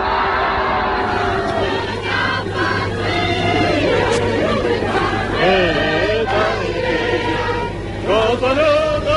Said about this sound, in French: Alors on a souvent l'occasion d'entendre la Marseillaise, mais celle que l'on vient d'entendre chanter le 8 mai 1945 sur les Champs-Élysées, où elle avait été interdite pendant 4 ans d'occupation, évidemment elle est émouvante.